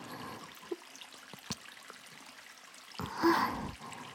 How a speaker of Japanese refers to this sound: ゴシゴシ鳴ってます。意外な音しますよね。シャワーオイルってこういう意外な音が鳴るからいいんです。